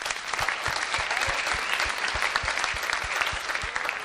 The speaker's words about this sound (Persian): خیلی سوالت خوب بود، تشویقش کنید.